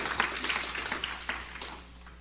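An audience claps together in a dense, steady patter of many hands, holding fairly loud for about two seconds before thinning out and fading away.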